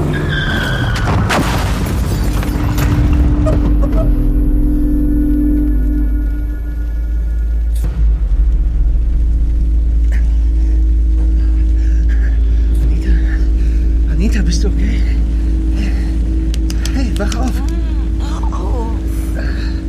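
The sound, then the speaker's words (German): A car engine roars loudly and steadily on a slippery road wet from rain, with a burst of skidding and rumble at the start, then a sustained heavy drone as the vehicle drives fast. “Hey, kannst du nicht ein bisschen schneller fahren?”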